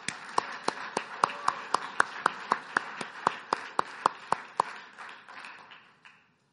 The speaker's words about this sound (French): Oui, applaudissons le Seigneur.